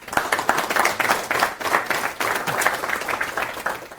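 A crowd applauds steadily, dense overlapping claps filling the room at a fairly loud, even level for a few seconds with no one speaking.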